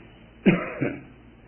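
Two quick coughs, a sharp one followed by a softer second a moment later, in an otherwise quiet, muffled-sounding recording.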